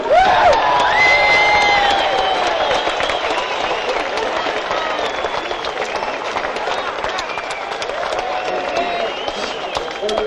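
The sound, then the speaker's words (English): A crowd applauds and cheers loudly and steadily throughout as a drummer is introduced, with dense clapping and shrill whistles and whoops rising above it, strongest at the start. “So please, a round of applause for the wonderful, excellent Mr. … of ….”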